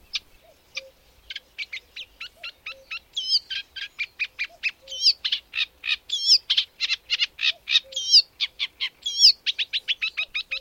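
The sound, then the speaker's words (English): A reed warbler sings deep within reed beds around Slapton, a long, steady run of rhythmic chattering notes, repeated phrases churning on without pause and growing louder midway, with no voices present. “The reed warbler is a summer visitor, which is often heard rather than seen as it sings deep within the reed beds around Slapton.”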